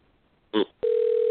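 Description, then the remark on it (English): A phone line ringing: after a short burst of noise, a steady mid-pitched electronic ringback tone sounds loudly and continuously, with no voices. “Answer the phone.”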